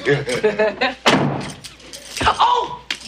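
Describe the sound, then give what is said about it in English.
A sharp wooden thud as a man bangs his toe into a chest in a bedroom lands loud, with another dull knock moments later, while people talk before and around it. “I just banged my foot on that chest.”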